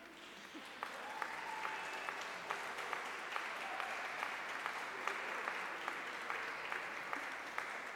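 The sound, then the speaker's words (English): A crowd applauds steadily for several seconds, a dense wash of clapping with scattered louder claps, while brief cheers and whoops rise from one section of the audience. “I love the cheering section on this side.”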